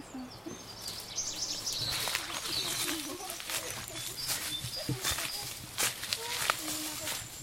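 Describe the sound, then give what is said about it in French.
Scattered birdsong chirps in a calm, quiet countryside setting, mixed with uneven crunching steps and a faint murmur of voices underneath. “Il n'y a aucun bruit après, des oiseaux. Tranquille.”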